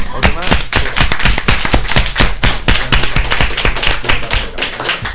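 A group breaks into loud applause to congratulate a woman on her saint's day, many hands clapping in a dense, irregular patter that holds steady for about five seconds without letting up.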